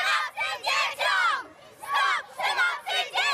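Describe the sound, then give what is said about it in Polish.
A group of schoolchildren shouts loudly in rhythmic bursts during a march, about six high-pitched chanted cries separated by brief pauses, yelling together. “Pani uczniowie krzyczą najgłośniej podczas tego marszu.”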